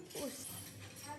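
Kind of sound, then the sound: household object, sweeping up broken glass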